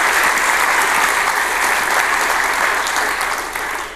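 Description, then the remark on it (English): A conference audience applauds the organizers steadily, a dense wash of many hands clapping at an even, loud level that eases off slightly at the end. No one speaks over it. “So just applause to the organizers.”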